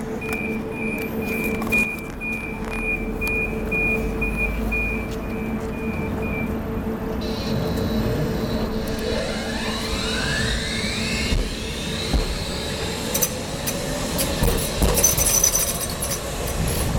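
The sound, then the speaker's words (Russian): A new electric tram in Liepāja runs along its rails with a steady low rumble, a whining motor tone that rises and sweeps upward, and occasional metallic squeals and clanks, continuous throughout. “Лепайчане в целом трамвайные обновки оценивают положительно, хотя некоторые горожане, не сговариваясь, отметили один недостаток.”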